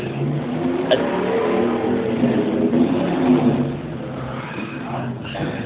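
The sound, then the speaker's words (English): A car engine revs loudly, its deep rumbling tone swelling and easing for several seconds in a steady, continuous drone with no voices. “I really love the sound of a good engine.”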